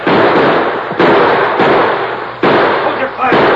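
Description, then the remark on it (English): Rifle gunshots from riders on horseback in pursuit crack out about four times at irregular intervals, each a sharp, loud burst over a constant rushing, hissing background noise. “Bullets.”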